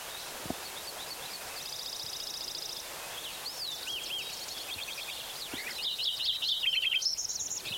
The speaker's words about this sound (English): Like it's sparrow number three.